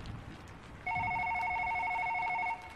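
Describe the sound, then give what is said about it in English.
A single burst of a telephone ringing at a Pizza Hut at 10:50 on a Saturday night, a steady electronic trilling tone lasting under two seconds, clear against a quiet background with no one speaking. “We had someone pick up an order around 10:15, but we had nothing else until 10:50, when the phone started ringing.”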